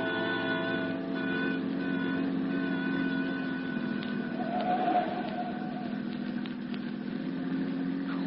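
A steady rumble of idling and slowly creeping car engines in a traffic jam fills the scene, with a constant low drone, harmonic hum and occasional faint horn-like tones, continuous with no talking.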